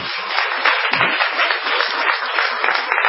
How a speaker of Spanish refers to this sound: ¿Y cuánta gente que aplaude, eh?